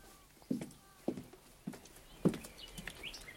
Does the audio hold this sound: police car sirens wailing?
no